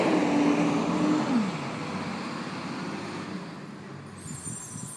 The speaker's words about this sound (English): Yeah, it's one of those side-loading trucks, so they're putting garbage there.